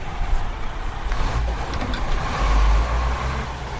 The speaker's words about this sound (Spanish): El del camión de la basura, eso sí, solo en esos contenedores en los que han denunciado el problema.